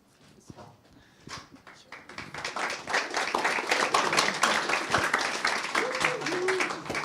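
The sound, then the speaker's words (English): An audience breaks into applause as the next presenter is introduced before a talk on GeoTIFF.js, starting with a few scattered claps and swelling after a couple of seconds into steady, dense clapping that holds to the end, with faint murmuring underneath. “I thought you'd clap after the talk.”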